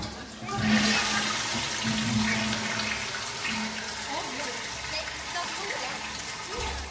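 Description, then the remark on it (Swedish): A toilet flushes: a loud rush of water surges in after a brief moment and keeps swirling and gurgling steadily to the end, with a low droning hum underneath. “Man spolar. Ja, spola avloppet. En toalett.”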